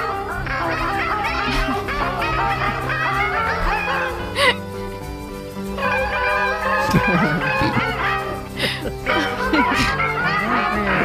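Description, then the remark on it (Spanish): A chorus of seagulls cries and squawks nearly nonstop, their wavering calls overlapping above a steady bed of orchestral music from the Vigo Symphony Orchestra with sustained low tones, all loud throughout, during a performance in Ponte Caldelas. “Las gaviotas cantan con la Sinfónica de Vigo, dice, sí.”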